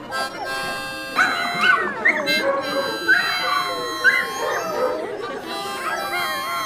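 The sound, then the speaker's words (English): Several dogs of many shapes, sizes and breeds yip, whine and howl in overlapping bursts over a steady crowd murmur at the Bethel Dog Show, held at the Bethel Cultural Center. The calls rise and fall throughout at moderate loudness. “Canines of every shape, size, and breed trotted in, hoping to take home a winning ribbon or two.”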